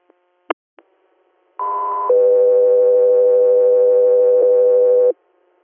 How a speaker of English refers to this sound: Delta 3 Air, standby for tones.